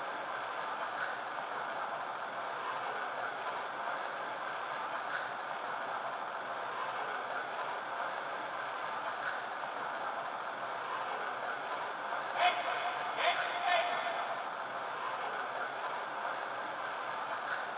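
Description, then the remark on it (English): Train number 1283, the Avocado Limited, pulls away from the station on track 2, departing for Portland, in a steady, unbroken rushing roar that holds at the same level throughout, with a few brief metallic clanks near the end. No one speaks. “Now departing for Portland on track 2. Train number 1283.”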